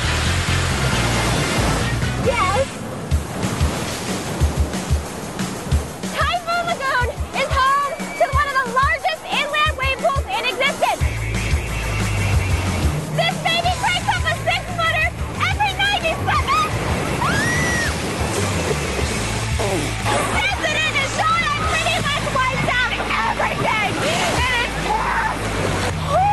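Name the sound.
splashing water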